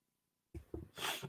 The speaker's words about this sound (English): Bear with me while I blow my nose.